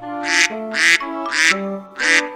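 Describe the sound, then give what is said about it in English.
A duck quacks four times in a steady, evenly spaced rhythm, each quack loud and nasal, with sustained musical notes playing underneath. “Mother duck said, "Quack, quack, quack, quack."”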